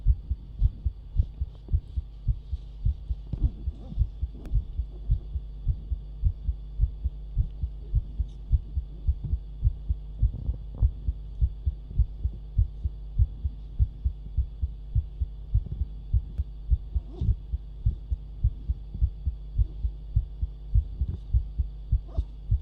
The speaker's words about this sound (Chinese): 困了吗？是小姐姐的心跳音，比一般人会快很多。